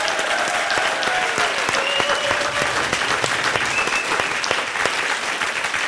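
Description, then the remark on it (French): Sustained audience applause, a dense steady clatter of many hands clapping at full volume for several seconds, with a few faint whistles or cheers rising through it. “Allez, on vous applaudit encore une bravo. Fois. Très, très, très fort.”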